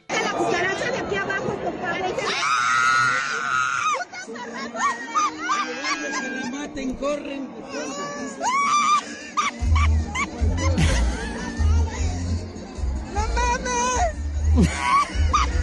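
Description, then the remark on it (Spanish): At a concert, a woman lets out high-pitched frightened shrieks and wails in reaction to cockroaches, amid loud crowd chatter and laughter, with several sharp cries rising over the noisy commotion. “Vamos a escuchar la reacción de esta señora ante las cucarachas salvajes.”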